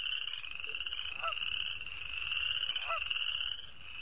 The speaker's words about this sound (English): The most common native frog that can be heard in spring is the western or boreal chorus frog.